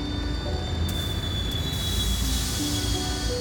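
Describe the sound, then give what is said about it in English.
A train rumbles steadily with a broad, breathy hiss of steam, while thin, sustained metallic squeals whine over the top and shift in pitch. No one speaks. “From outside came the sounds of hissing steam and squeaking metal. I looked through my window and saw a train standing perfectly still in front of my house.”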